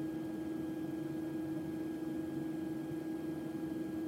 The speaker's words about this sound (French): Donc dans leur chambre, ils ont un système qui permet de diminuer le volume du son ou en tout cas de faire un son qui est plus agréable pour dormir. On appelle ça un bruit blanc et on va te le faire entendre.